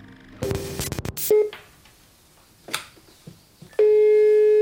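A telephone handset clicks and a short tone beeps, followed by faint scattered clicks, then a steady electronic line tone begins and holds loudly at the end. No voices are heard.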